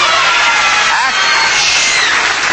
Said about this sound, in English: I didn't hear a buzzer, did I? No. I heard a squeal from the audience, I guess.